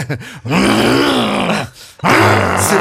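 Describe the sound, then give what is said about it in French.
A man's voice imitates King Kong's growl, as he does in a stage play: two long, loud, guttural roaring groans with a rough low pitch, separated by a brief pause, preceded by a few short grunts. “Je te demande de faire le bruit de King Kong, est-ce que tu peux nous le faire?”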